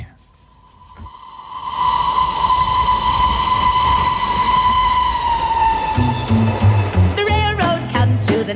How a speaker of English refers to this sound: Have you got a train in the middle of your house?